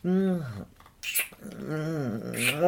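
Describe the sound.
A person imitates a dog's growl: two drawn-out, throaty, pitch-wavering growls, separated by a brief breathy pause with a few soft hissing sounds.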